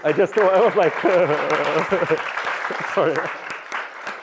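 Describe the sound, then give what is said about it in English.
A lone person claps their hands in a quick, irregular run of sharp slaps, with a man's voice talking over the first half before the claps continue on their own. “Oh, sorry, I didn't want to applaud to myself.”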